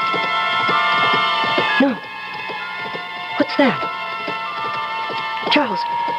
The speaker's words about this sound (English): Do you hear them? Why? Somebody riding a horse. It's 2:30 in the morning. But can't you hear them?